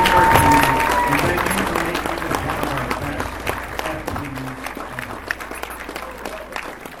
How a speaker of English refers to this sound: But first off, I want to thank every and each one of you. Big round of applause for yourselves. Thank you for coming.